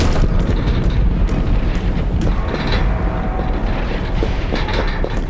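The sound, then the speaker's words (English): Heavy, continuous pounding and crashing against a front door as attackers break through it, loud, with dense thuds and splintering impacts piling on top of each other for several seconds and no voices. “The front door! They're almost through!”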